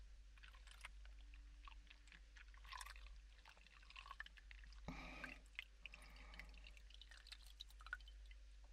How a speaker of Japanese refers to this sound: こういうのはお水の音もセットにするといいですよね。